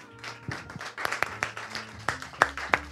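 A small audience at the Suggeritore Night Live stand-up comedy show applauds with scattered, uneven claps, some sharp and distinct, over a low steady hum, lasting about three seconds without any voices.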